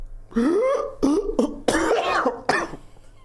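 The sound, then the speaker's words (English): A loud bout of harsh, genuine coughing: several raspy, throaty bursts in quick succession over about three seconds, with a hoarse, voiced edge and throat-clearing quality. “That was a genuine cough there from ….”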